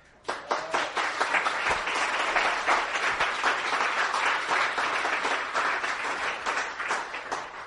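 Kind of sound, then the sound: crowd, audience clapping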